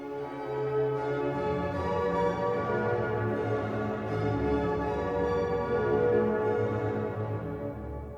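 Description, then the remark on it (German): Carillon bells ring steadily, their layered, overlapping tones blending into a full, resonant wash that holds at an even, fairly loud level throughout, with no voices. “Zum Glockenspiel.”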